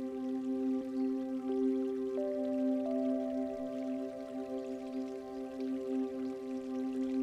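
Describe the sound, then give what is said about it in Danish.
A brook trickles and babbles steadily throughout, soft and continuous, underneath sustained, gently shifting tones of a calm musical drone. No one speaks. “Du bliver opmærksom på lyden og duften fra en bæk.”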